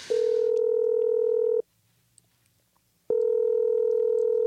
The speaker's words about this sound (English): is dialing.